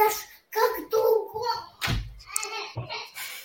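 A young child babbles and vocalizes in high-pitched bursts, with a soft thump partway through and brief pauses between sounds.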